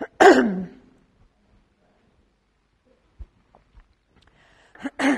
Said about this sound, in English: So the law, oh dear, sorry, I am coughing.